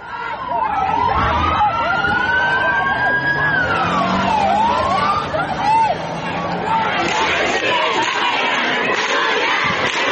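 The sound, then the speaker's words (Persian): A police siren wails in long rising and falling sweeps as police in Toronto chase a car that drove at a protester, over a noisy crowd of protesters with shouting and babble that carries on after the siren fades. “اینجا در تورنتو خودروی به سمت یکی از معترضان حمله می کند و پلیس بعد از تعقیب خودرو راننده اش را بازداشت می کند.”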